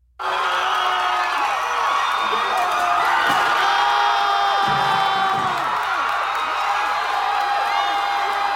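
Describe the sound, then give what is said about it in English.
A large outdoor crowd of students cheers and whoops continuously as they pull down Silent Sam, a 1913 Confederate memorial statue on campus, kicking and stomping on it, with overlapping shouts, whistles and scattered clapping forming a dense, loud roar that barely lets up. “So they're pulling down the statue, and people are celebrating and cheering and kicking the statue and stomping on the statue as though they've just pulled down a statue of Stalin or a statue of Saddam Hussein”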